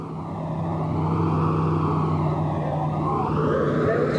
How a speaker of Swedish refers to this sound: Bussen går mot koncentrationslägret Neuengamme strax söder om Hamburg.